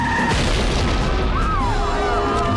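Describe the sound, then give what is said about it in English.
A small racing car veers off the road and explodes in a ball of flames: a loud, sustained boom of deep, rumbling low-end roar that fills the whole stretch without fading, with faint whining tones drifting above it. “The car veers off the road and explodes in a ball of flames.”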